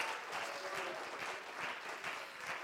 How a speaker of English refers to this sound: Clap your hands to him right now. Hallelujah.